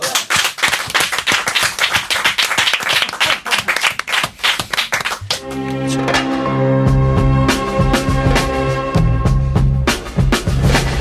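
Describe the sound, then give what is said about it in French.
A small group claps rapidly and steadily. About halfway through, music swells in underneath and the clapping continues faintly beneath it. “On va applaudir.”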